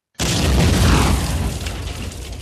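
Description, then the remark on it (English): A relatively small motorcycle bomb explodes on a street in southern Thailand: a sudden, loud blast after a brief silence, followed by a sustained, roaring, deep rumble that slowly eases but stays strong, with no voices. “A motorcycle explodes on the streets of southern Thailand, part of the simmering separatist insurgency in the country's deep south.”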